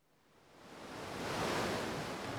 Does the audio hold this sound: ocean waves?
yes